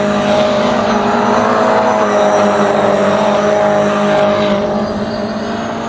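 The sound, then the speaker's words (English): A race car's engine roars loudly and steadily, a dense buzzing whine that eases slightly at the end as it moves on, as the car drives past on a hill at VRR where drivers must hit the curbs. No one speaks. “It's a choice car.”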